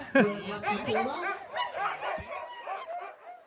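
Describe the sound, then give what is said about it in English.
A pack of sled dogs barks, yips and whines excitedly in a dense, overlapping chorus, loud, with high-pitched cries continuing without pause throughout, eager to run all out. “They're adjusting back into like business mode, and they come to a place with a lot of sled dogs and they're like, we know what this means.”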